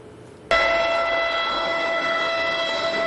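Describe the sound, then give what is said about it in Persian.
A loud, sustained train horn blasts suddenly after a brief quiet moment and holds steadily, its layered tones ringing over a low rumble of a train, on a train journey in the United States in autumn. “مسافرت با قطار در پاییز در ایالات متحده آمریکا برای این دسته دوم خیلی لذت بخشه و بهترین فرصت برای دیدن چرخش رنگ طبیعت.”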